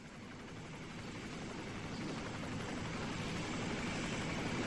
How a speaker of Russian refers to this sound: Воздух задрожал, наполнился громким рокотом винтов, когда над холмом показался черный ястреб.